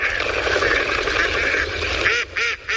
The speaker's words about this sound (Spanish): ¿Esto es un pato o un silbón? El silbón me ha adelantado, yo vine ahora. Este es el silbón. Claro. Más agudo, ¿no? Silba.